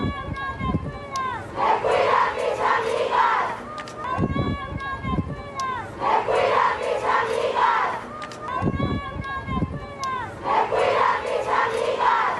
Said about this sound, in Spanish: Alrededor del mediodía, distintos contingentes llegaron a la explanada de la rectoría gritando sus consignas como: la UNAM no me cuida, me cuidan mis amigas.